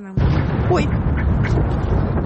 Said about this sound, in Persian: اما هنوز سخنان او تمام نشده بود که صدای یک انفجار مهیب بلند شد.